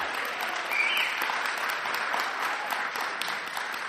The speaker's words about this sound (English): Yeah, maybe we can give our worship team a round of applause again.